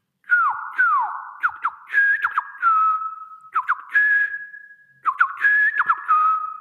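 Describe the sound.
A person whistles a bird call imitation: a run of bright chirps, quick swooping slides and trills, then sustained warbling tones, repeated in two phrases, fairly loud with no talking.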